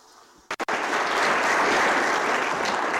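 A crowd bursts into steady, loud applause after a couple of sharp initial claps, the dense clapping continuing evenly to the end with no voices over it.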